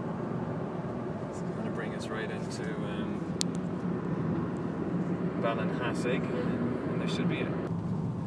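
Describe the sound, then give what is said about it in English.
Steady low road rumble and engine drone fill a car cabin driving on a major highway, constant and fairly loud throughout, with faint, indistinct voices surfacing briefly in the background. “Back in the car again.”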